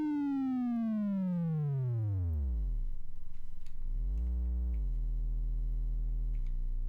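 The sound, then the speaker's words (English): A buzzy synthesized triangle wave tone, binaurally panned in stereo, with a bright stack of harmonics sweeps steadily downward into a low rumble, then climbs back and holds a steady low pitch. No talking. “Sort of, yeah, it sounds sort of binaurally panned.”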